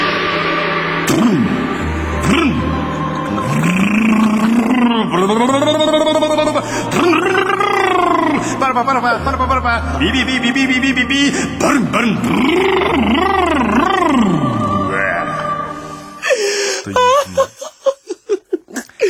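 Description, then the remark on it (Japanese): A voice mimics a motorcycle engine with sustained, revving vocal drones that rise and fall in pitch over and over, loud throughout, ending in a few sputtering bursts. “バイクの音です。”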